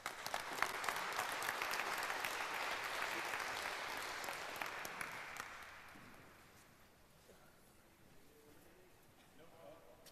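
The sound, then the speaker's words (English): An audience applauds steadily for about six seconds to welcome the speaker of the talk The Great British Drone Panic, a dense crackle of many hands clapping, then it tapers off into quieter background noise with a few scattered claps and faint murmuring. “Give her a warm applause”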